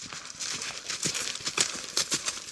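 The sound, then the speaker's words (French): A horse's hooves pound in a quick, steady rhythm, sharp thuds repeating every half second or so over a hissy, rustling background, with no voices. “Ganelon, un des trois barons, qui arrive au grand galop, seul et sans écuyer”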